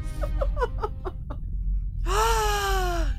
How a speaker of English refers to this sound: Gasping in front of you